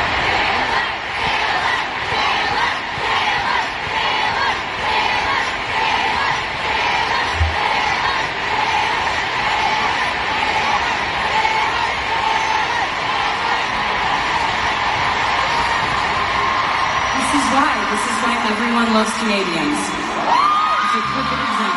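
A huge crowd of fans at a concert in Toronto cheers and screams loudly without pause, a dense, steady roar of whoops and shouts, with a voice briefly rising over the din near the end.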